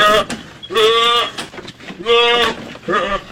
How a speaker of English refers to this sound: How have you not played a goat scream?